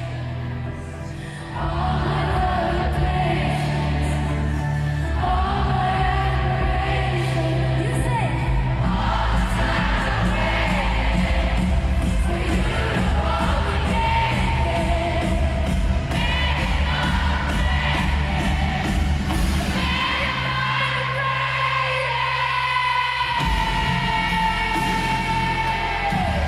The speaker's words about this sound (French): C'était fou, là. C'était fou de voir toute la foule chanter comme ça.